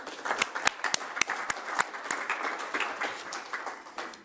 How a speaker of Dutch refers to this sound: En ik vind een applaus voor uzelf echt wel op zijn plaats.